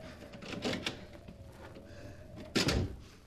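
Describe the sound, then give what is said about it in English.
An unlocked door of a house is opened with a few quiet clicks and rattles, then pulled shut with a louder thump near the end, over a faint steady hum. “Here's a door. If it's only unlocked. Oh, it is.”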